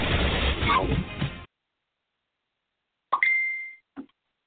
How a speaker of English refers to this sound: Somehow I can't seem to turn off my darn notifications, so they're going to be binging in the background. I hope it doesn't become too much of a hindrance.